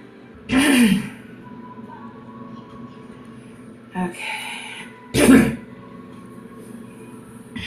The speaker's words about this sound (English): I had a really good hit from the bowl. I pretty much just went into a coughing fit.